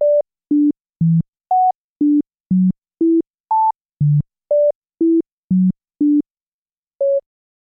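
Fourteen short, pure electronic beeps at a steady, even pace, each a melody note jumping between low and high octaves so the tune is unrecognizable, with a brief pause before the last beep; a demonstration of Diana Deutsch's mysterious melody phenomenon.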